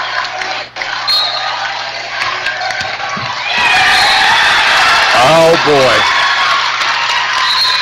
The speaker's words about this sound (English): And on the inbound, the crowd is cheering because Leg broke up the inbound. And we've got a whistle and the referee wants the crowd to get back off the floor because they are slowly inching out onto the floor.